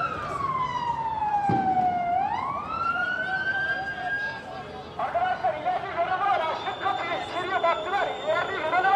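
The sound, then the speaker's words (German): An ambulance siren wails with a long falling and rising sweep, loud, then the driver's amplified voice booms from a loudspeaker microphone over the continuing siren tone as the ambulance moves from one police and protester barricade to the next at a demonstration. “Dumm ist natürlich, dass die unkoordiniert vorgehen und dann der Krankenwagen von einer Polizei, von einer Demonstrantensperre in die nächste fährt.”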